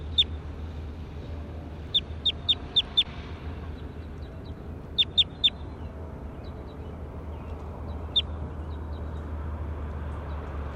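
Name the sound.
bird calling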